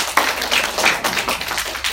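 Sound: audience clapping in welcome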